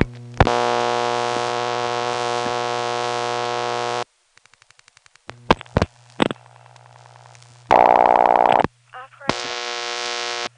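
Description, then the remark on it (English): A party line telephone rings after 7 plus the last four digits are dialed, with a long, harsh buzzing tone, then a stretch of rapid clicks and pops, followed by shorter buzzy ring bursts. It's fairly loud, with no talking. “Okay, just dialed 7 plus my last 4 digits, and you can see that that's the way party line ringing is accomplished.”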